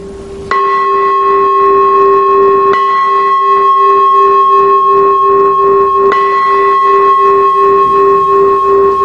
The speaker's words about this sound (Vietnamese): Và nếu mà là chuông tụng kinh, vô chuông mở để vô thời kinh thì tiếng chuông sẽ là như thế này.